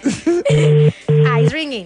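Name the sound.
telephone call ringing tone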